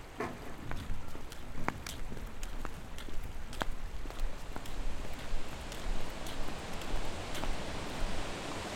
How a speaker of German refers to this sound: Ist das laut hier? Ja, hier prasselt das Wasser ja auch ganz schön herunter. Ihr müsst euch das so vorstellen, dass das Wasser vom Fluss hier ankommt und dann flups meterweit runterfällt und unten das Wasser natürlich weiterfließt.